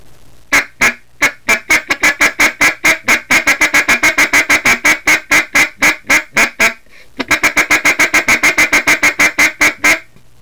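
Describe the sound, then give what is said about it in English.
A turkey game call sounds a long, rapid run of sharp turkey clucks, loud, speeding up partway through, pausing briefly, then continuing in quick succession with no talking; the clucks are made by saying the word 'cook' into the call. “To do the cluck, I'm going to use the word cook.”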